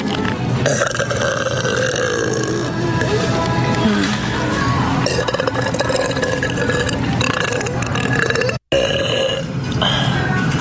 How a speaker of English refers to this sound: Here she is. On your zesty salsa. Burp on your mashed potatoes. I bet you wish you could buy all the products that I just burped on, huh? Too bad.